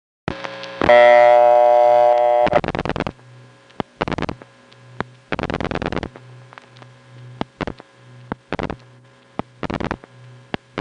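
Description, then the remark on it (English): A steady, buzzing Bell System city telephone dial tone from New York hums over the line, briefly louder near the start, then continues beneath several bursts of rapid clicking. “Dial tone on that call is a typical Bell System City dial tone, which is also on this example from New York.”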